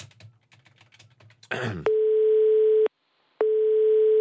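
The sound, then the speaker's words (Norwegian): A phone's ringback tone sounds twice while a call is placed to an expert, each a steady electronic purr about a second long with a pause between, preceded by faint keyboard taps and a brief rustle. “Vi ringer en fyr nå som kan masse om det her.”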